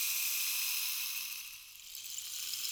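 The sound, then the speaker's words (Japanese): A rain stick pours out a steady, hissing cascade of tiny pattering beads, bright and rain-like, easing slightly midway before swelling back. No voices. “これはレインスティック。雨を降らせる魔法の棒だ。”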